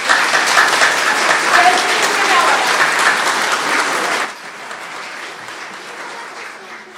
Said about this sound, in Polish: I każdemu dziecku klaskam.